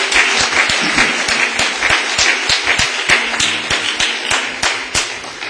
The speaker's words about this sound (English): Come on and give the Lord a big hand clap of praise.